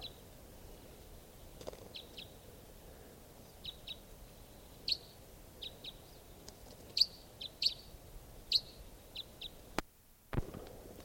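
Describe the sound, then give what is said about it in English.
A type 5 bird call from a bird right above the camp: a series of short, high chirps repeating irregularly, singly and in pairs, over a quiet outdoor background. No one speaks. “Here's another type 5.”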